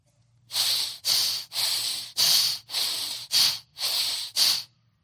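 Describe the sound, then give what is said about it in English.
Heavy, forceful breathing through flared nostrils, eight loud snorting breaths in a quick steady rhythm, alternating in and out, with no one talking. “Now, this word anger carries the idea of flaring the nostrils with heavy breathing because of incited anger.”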